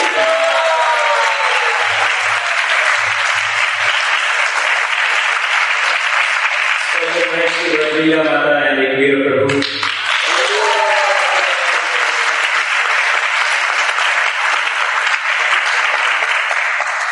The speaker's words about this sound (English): There are many people who work in the background and no one get to see or meet. Our heartfelt gratitude to all of them. Round of applause for them.